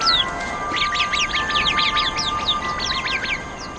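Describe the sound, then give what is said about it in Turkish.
A chorus of bright, rapid Arabian babbler calls in the hot, dry Middle East, many short chirps overlapping in quick bursts, as if a small flock is calling together, with steady background noise underneath. “Arap kuşları olarak bilinen bu küçük canlılar, bu zorlu ortamda hayatta kalmayı başarırlar.”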